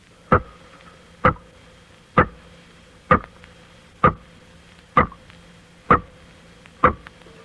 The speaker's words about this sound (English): Here is some water dropping into a small tank as its sound is picked up by an ordinary studio microphone. Now we will let you hear those same water drops as they sound when magnified a few million times by an electrical sound microscope.